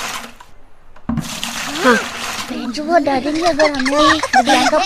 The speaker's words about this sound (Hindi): हम सब मिलकर क्लास से पानी बाहर निकाल देंगे। पानी बाहर निकाल देंगे, सूखी दरी बिछा देंगे। और सभी बच्चे क्लास से पानी निकालने में जोर शोर से जुट गए।